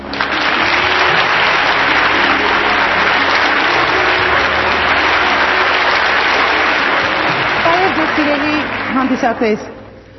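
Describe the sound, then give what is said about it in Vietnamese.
Sustained, loud applause from a large audience welcoming Supreme Master Ching Hai to Armenia fills nearly the whole recording, a dense steady clatter of clapping that thins out near the end as a voice begins to speak. “Kính thưa quý vị, xin quý vị một tràng pháo tay chào đón Ngài Thanh Hải Vô Thượng Sư tại Armenia.”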